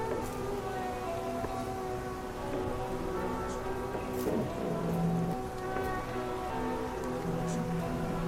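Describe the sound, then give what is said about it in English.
Bamboo growing in a yard rustles steadily outdoors, a continuous soft, rain-like hiss that holds at an even level throughout, with faint background hum and no voices. “The bamboo makes great sounds.”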